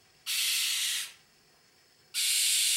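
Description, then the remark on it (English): A male short-eared owl gives two long, harsh, hissing screams, the first lasting under a second, then a pause before a second rasping scream cuts in and runs on, loud and breathy with no other sounds. “The males make a long, harsh scream, and often they call repeatedly from the air, while the females are mostly silent.”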